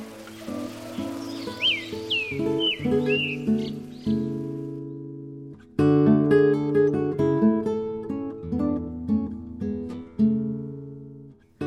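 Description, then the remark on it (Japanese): A few quick bird chirps flit through the opening seconds, light and high, layered over steady background music that carries on alone afterward; birds singing on the quiet Healing Path, where visitor access is restricted. “訪問客の出入りが制限されている治癒の道には静けさが漂い、 鳥のさえずりだけが聞こえていました。”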